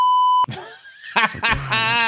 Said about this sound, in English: Whoa, that's getting edited. That has to get cut. We can beep it.